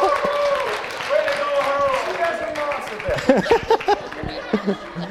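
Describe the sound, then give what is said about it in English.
Wedding guests laugh and cheer in a lively mix of voices just after the pastor pronounces the couple husband and wife, then scattered clapping breaks out, sharp uneven claps popping over the continuing chatter and laughter. “And of course, as the pastor pronounced you, you know, at least today, I don't know about back then, but at least today, people would have done just what they did, clap for you.”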